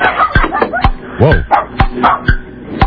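A dog barks in a rapid flurry of about 14 barks, firing off a quick run of sharp, loud yips and barks one after another, with one higher, whining yelp in the middle.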